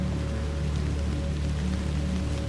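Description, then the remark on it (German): Steady rain patters down on a soft, mossy path in a soft, continuous wash, with dense scattered droplets and a faint low hum beneath. No voices. “Das gleichmäßige Trommeln von Regentropfen auf einem weichen, moosigen Pfad.”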